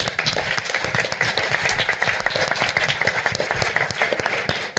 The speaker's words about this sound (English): Final, loud, raucous, make it deafening in here. Round of applause for yourselves, for your bravery, courageousness, and ability to be here on a Sunday night when you could be doing something else.